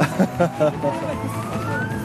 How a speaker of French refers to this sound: C'est très bruyant, hein. C'est la police, c'est pas une ambulance.